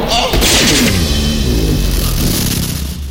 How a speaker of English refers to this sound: Guys, hear a whoosh.